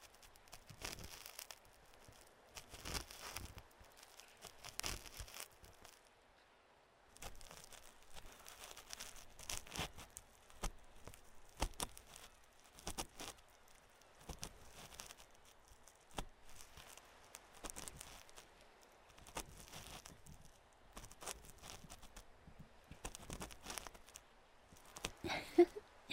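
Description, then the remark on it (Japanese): Ear cleaning with an ear pick while the sound of waves plays: soft, scratchy rustling strokes come in irregular bursts, some quick and repeated, others longer, fairly quiet throughout with no one speaking. “波の音を聞きながら耳かきをされるのはとても気持ちいいでしょ。”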